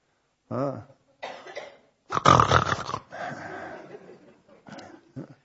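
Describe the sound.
A person imitates snoring: a voiced groan, then several rough, raspy snorting inhales and exhales in uneven bursts, the loudest one near the middle, trailing into shorter snuffles.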